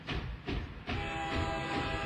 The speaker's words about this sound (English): What's your choice? Train, boat, or plane? All aboard. All right, you want the train.